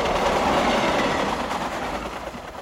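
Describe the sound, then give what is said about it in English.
A train rolls past on the rails, a loud, steady rumble with rattling wheel clatter throughout, easing off only slightly near the end. “Elsewhere, a train rolls by.”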